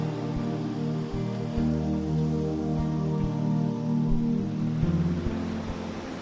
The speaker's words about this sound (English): Relax here near the gentle ocean. Now all is quiet. Peaceful, serene.